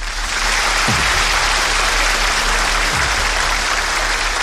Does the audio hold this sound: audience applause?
yes